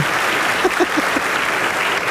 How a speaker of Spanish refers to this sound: A mí me encantan los aplausos del sí, público. Sí, es lo que veo. Te emocionas el mucho. El día de hoy fue el público con más aplausos.